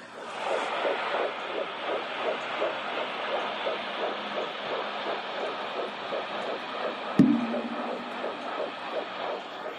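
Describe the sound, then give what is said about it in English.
A fetal heartbeat on an ultrasound monitor pulses quickly and steadily in a whooshing, watery rhythm, with a brief sharp click partway through. “Well, can I interrupt and play the baby's heartbeat right quick?”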